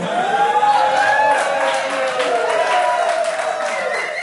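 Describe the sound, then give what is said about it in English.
An audience boos a comedian's joke about NFL players wearing pink for breast cancer research, in a long, droning chorus of low voiced tones that holds steady and fairly loud for about four seconds, with a faint scatter of claps mixed in. “Who booed that?”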